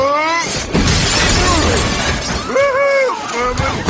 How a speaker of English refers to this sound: The debtor crashes through the window, knocking a businessman to the floor.